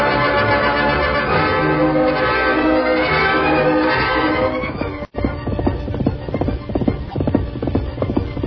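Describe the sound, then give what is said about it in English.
The horse Silver lets out a loud whinny amid busy hoofbeats, then, after a brief cut, rapid galloping hooves pound in a fast, steady rhythm as he races to stop a train, with no one speaking. “Faster, big fellow! We've got to stop that train!”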